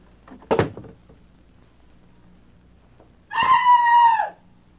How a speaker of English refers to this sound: would you mind going back into the bathroom and closing the door behind you? Then scream as loudly as you can.